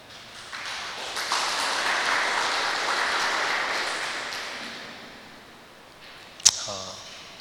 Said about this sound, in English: Okay, that was a good song. Let's give them a hand.